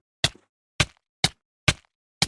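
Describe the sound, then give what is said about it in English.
A pen strikes a full matchbox five times in a steady rhythm, each hit a sharp, loud, papery whack with a brief rattle, separated by clean silence. It is a Foley recreation of the Minecraft damage sound. “This sound is bound to strike fear into the heart of any Minecraft player, and the loud whack can be recreated by taking a full matchbox and hitting it repeatedly with a pen, like I did to create the sound you just heard.”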